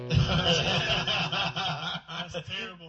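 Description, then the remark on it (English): A person imitates a chicken with a continuous run of nasal, honking clucks for about three seconds, loud, with short choppy bursts toward the end. “We should have a cluck off.”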